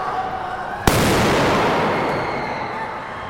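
explosion

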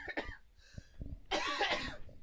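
coughing

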